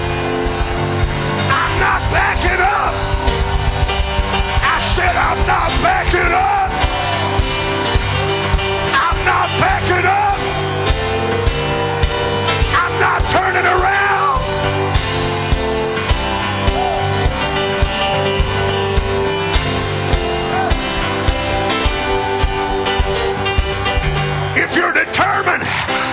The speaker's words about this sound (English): Let it be signified by the roar of your voice.